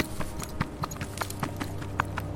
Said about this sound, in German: Ihr hört ein Rascheln und dann Schritte, die schnell von euch weghuschen.